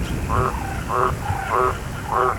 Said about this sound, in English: Or the happy croak of a green tree frog in a summer storm.